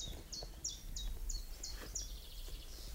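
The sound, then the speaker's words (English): A chiffchaff sings a steady run of short, high, evenly spaced notes over a soft woodland hiss, with bits of chaffinch song mixed in faintly behind it. “Of course, it's a chiffchaff.”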